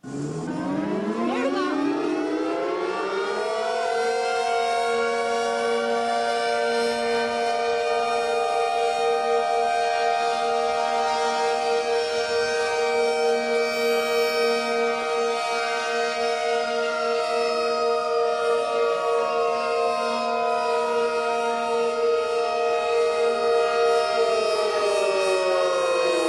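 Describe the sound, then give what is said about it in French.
Four sirens wind up together from a low growl. For a few seconds their rising tones find their notes and harmonize into a sustained, steady chord, then drift apart back into noise. Loud and continuous, with no voices. “Ça commence en étant un bruit, le temps que les quatre sirènes se lancent.”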